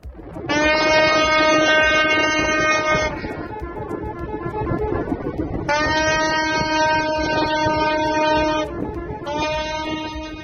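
Loud horns from hundreds of waiting ships at the canal in Egypt blare in three long, steady blasts, the last cut short, over a constant low rumble of engines and water, celebrating the rescue of a Panamanian-flagged vessel and the end of the crisis; no one speaking.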